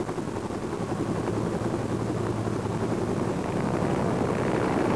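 A helicopter hovers 20 to 50 feet off the ground during rappelling training, its rotor producing a steady, loud, throbbing roar with a low rhythmic thump that holds constant for the whole stretch, with no voices.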